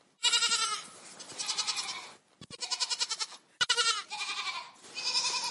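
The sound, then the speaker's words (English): Goats on a goat dairy and cheesemaking farm in Indiana bleat loudly in a run of overlapping, wavering cries, several calls in quick succession with only brief pauses between them and no talking. “From that beginning, their efforts grew into the goat dairy and cheesemaking operation of Caprini Creamery.”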